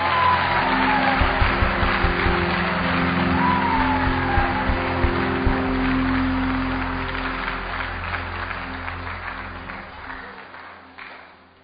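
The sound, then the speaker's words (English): A large church audience claps hands loudly and continuously for several seconds during a sermon, with scattered shouts and whoops mixed into the dense applause before it gradually thins out. “Somebody lift up your hand and say, I am different. Clap your hands like thunder.”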